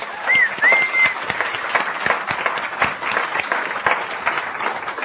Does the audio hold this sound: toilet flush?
no